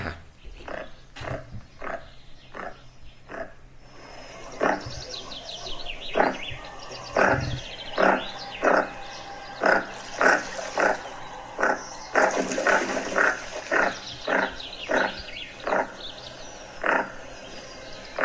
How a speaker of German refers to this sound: Hier kommt der Goose Sender, heißt der im Englischen übrigens, der Vogel. Goose Sender.